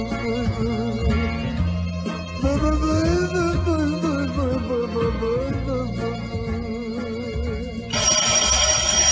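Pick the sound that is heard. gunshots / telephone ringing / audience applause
telephone ringing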